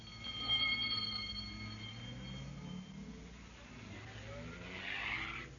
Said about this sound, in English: The ambulance drove off to the local hospital.